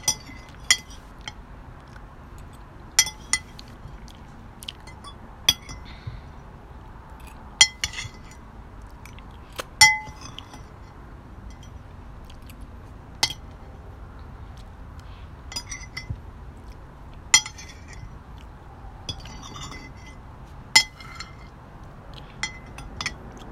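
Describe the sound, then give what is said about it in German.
Pots and dishes clink and knock against each other in irregular bursts as cooking pots are carried outside, about a dozen sharp metallic and glassy taps over a low, steady background rumble, with no talking. “Soll ich die mit rausbringen? Ja. Wenn jetzt nicht zu heiß ist, die Töpfe.”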